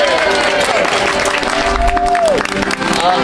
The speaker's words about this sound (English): Are we going to give these runners a cheer?